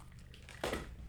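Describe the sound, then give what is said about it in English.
Kitchen Sink cider from Rose Hill Farms in Upper Red Hook splashes briefly into a glass, a short bright gurgling burst that rises suddenly and then settles into a faint hiss over a low background hum. No one speaks. “Oh, we're getting the sound of the pour.”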